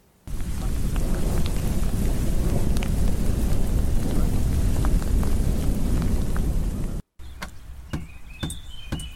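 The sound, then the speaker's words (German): Heavy rain pours down steadily outdoors on a learning meadow on a wet, cloudy July day, loud and continuous with a low rumble, then abruptly cuts to a softer patter with faint birds chirping in the background. “Und es hieß zwar unter freiem Himmel, aber dicke Wolken bedeckten die Sonne und die Geräusche des Regens bildeten eine dauerhafte Hintergrundkulisse.”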